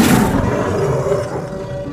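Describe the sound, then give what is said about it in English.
A big tiger's deep, rumbling roar bursts out loudly, then holds as a sustained, throaty growl for a couple of seconds. No voices accompany it. “Shere Khan, a big tiger, does not like humans.”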